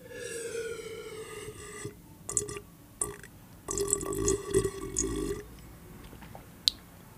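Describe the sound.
A voice imitates someone drinking water: a long wavering hum gives way to throaty gulps, gurgles and clicks in uneven bursts, ending with a single sharp click.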